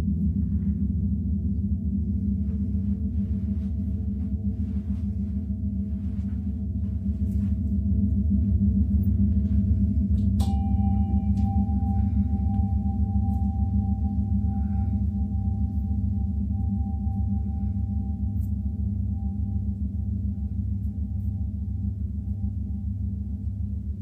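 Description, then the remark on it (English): Gongs and chimes played during a gratitude meditation: a deep gong drone hums steadily throughout, layered with low resonant tones, and about halfway through a bright chime is struck and rings on, sustained over the rumbling wash. No voices. “Well, I don't know if you've never experienced those gongs and the chimes in person.”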